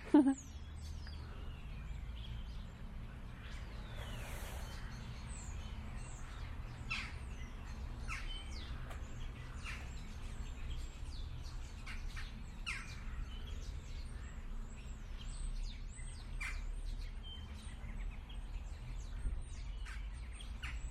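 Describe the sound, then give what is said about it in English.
Many birds sing and chirp at once, a steady chorus of short, high-pitched calls and tweets layered over a constant low rumble, with no voices. “All those birds.”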